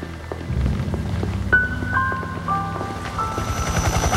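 A helicopter passes overhead at a crash site, where a dive rescue boat is in the water, its rotor blades thudding in a rapid, steady chop with a thin mechanical whine above. The noise is loud and continuous, with no voices.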